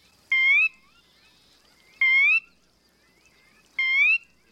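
A sora, a marsh bird, gives three evenly spaced, clear rising whistled calls, each about a third of a second long, with quiet pauses between and no talking.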